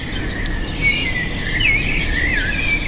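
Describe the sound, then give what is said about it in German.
Birds chirp and sing continuously in Mexico City, with thin warbling whistles weaving over each other against a steady low background hum of the city. No one speaks. “Stille und Vogelgezwitscher sind in der Stadt der sozialen Ungleichheit normalerweise ein Privileg für einige wenige, zumeist Reiche.”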